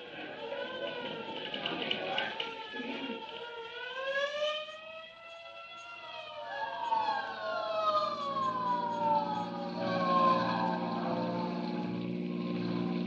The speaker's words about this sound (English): Say, there's a hook and ladder on the street right now. It must have turned the other alarm.